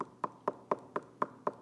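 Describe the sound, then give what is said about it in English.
A steady series of seven knocks on a door, evenly spaced and fairly quick, each a sharp hollow rap at moderate volume with no voices around it. “Because according to the Bible, He knocks.”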